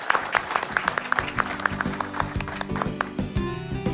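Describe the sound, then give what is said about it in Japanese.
An audience applauds with a steady patter of overlapping claps at moderate volume, with faint music running underneath, sending off the CEO of DataSection at the end of its investor relations presentation. “大きな拍手でお送りください。”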